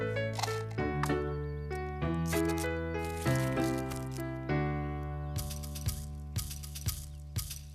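Dried beans rattle in a paper cup in quick shaken bursts, growing into sharp repeated shakes toward the end, heard over sustained musical tones with no talking.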